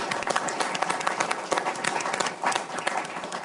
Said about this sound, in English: And we will, as you're leaving, we'll give you a round of applause, General.